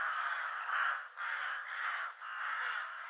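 Crows caw in harsh, raspy calls, about three drawn-out caws in a row with brief gaps between them, loud, with no talking.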